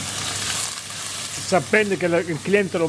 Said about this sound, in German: Anthony Genovese schneidet einen Tintenfisch in kleine Scheiben und wirft sie in die heiße Pfanne.